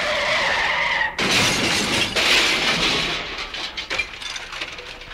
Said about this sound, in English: So I dropped it in reverse and the car exploded.